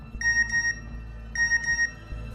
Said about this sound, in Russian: СМС о балансе разбудило меня. Этот звук в гробовой тишине показался мне раздражающим.